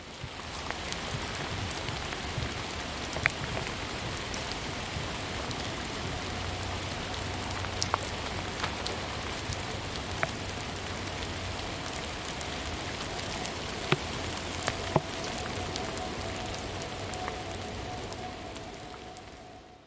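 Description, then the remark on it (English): Steady light rain drizzles outdoors in Ravenna Park, a dense, even patter of fine drops with occasional sharper individual taps, continuous throughout with no voices and a faint low hum underneath. “Ravenna Park, Rain Drizzle Ambience 01.wave.”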